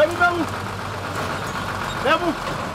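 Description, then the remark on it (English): A dark green water truck's engine rumbles steadily at low pitch throughout as the truck inches back and forth to line up under a hose for filling with water, while a worker on top of the truck shouts commands to the driver twice in brief shouts over it. “He maneuvers the truck, inching back and forth until the filling flap on top of the roof is directly below the frayed hose.”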